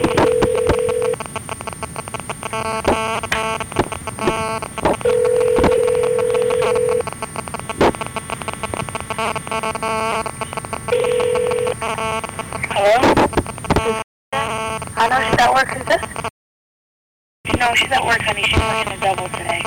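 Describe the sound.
A telephone call goes through: steady ringing tones repeat down the line in evenly spaced bursts, heard over a noisy, crackly connection with faint voices in the background.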